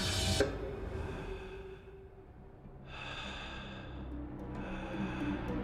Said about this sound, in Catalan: Sí, a mi em respiren una miqueta així a l'orella